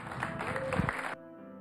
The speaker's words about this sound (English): Hey, while you're clapping, could you make some noise for Jesus?